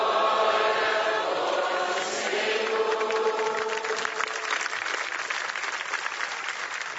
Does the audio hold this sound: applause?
yes